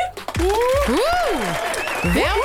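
A loud, steady wash of audience applause fills the whole moment, with rising and falling whoops and cheers sweeping over the clapping.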